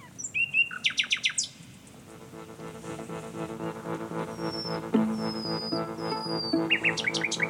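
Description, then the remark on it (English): Birds sing in quick bursts of bright chirps, rapid at the start and returning near the end, over a steady, sustained tonal drone in the middle, like a held note, as ancient folk music of the British Isles is sung in harmony with the birds. “And when you hear it sung in harmony with the birds, it's like stepping way back in time.”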